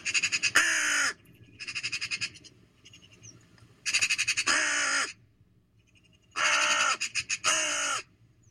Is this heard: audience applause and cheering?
no